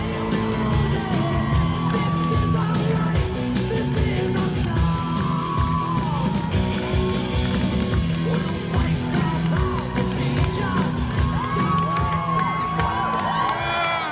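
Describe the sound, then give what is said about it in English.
A large rally crowd cheers and yells continuously, a dense roar with scattered whoops and shouts rising over it, loud and sustained throughout without a break. “What a crowd. What a crowd.”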